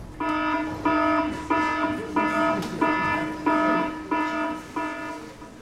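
A submarine alarm, warning that the oxygen is running low, sounds in a steady series of about seven loud, buzzing horn blasts, each with a brief gap between, repeating evenly with no voices.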